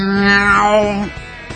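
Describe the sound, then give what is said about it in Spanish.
A human voice imitates a cat screeching as if set on fire: one loud, strained, sustained yowl lasting about a second, then breaking off into rough, fading noise. “Ah, es como un gato que se prende fuego y hace...”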